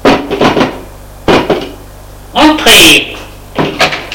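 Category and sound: impact, knocking on a door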